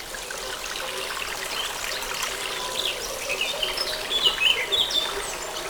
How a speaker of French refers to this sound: Une source, un oiseau, et en fond, les sonailles. en milieu forestier.